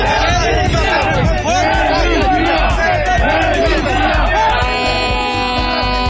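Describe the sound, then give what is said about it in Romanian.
A loud protest crowd at Cotroceni boos and shouts continuously at President Klaus Iohannis as he tries to talk with them, a dense roar of many voices with rising and falling jeers and no break for the whole stretch. “La Cotroceni, președintele Klaus Iohannis a încercat să stea de vorbă cu contestatarii săi, a fost însă huiduit.”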